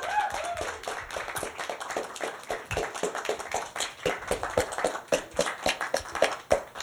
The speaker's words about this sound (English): So how about, before we start, how about a nice, generous round of applause